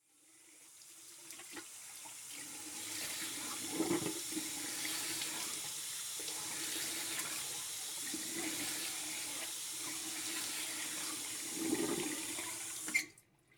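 A faucet runs steadily into a washroom sink, a continuous broad hiss of flowing water with a few brief splashes and knocks, ending abruptly as the tap is shut off.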